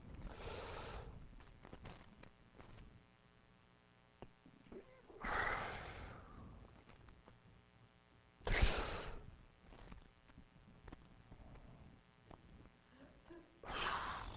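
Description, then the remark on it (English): Four slow, deep breaths as someone practices deep breathing, long drawn-out inhales and exhales spaced a few seconds apart, fairly loud, with no talking between them. “I'm practicing deep breathing. So I don't kill you.”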